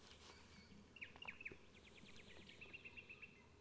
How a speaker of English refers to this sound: Kulila National Park. This is the same location as where Lead and Flycatcher was recorded yesterday. Use same GPS locations. Two birds countersinging back and forth. This bird was in the top of a dead snag singing.